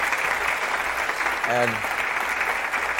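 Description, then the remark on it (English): A studio audience applauds a brave young woman who came forward, a dense, even wash of clapping that runs the whole time, with one short voiced shout rising briefly above it midway. “Let's give her a big hand.”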